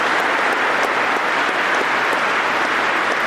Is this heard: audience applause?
yes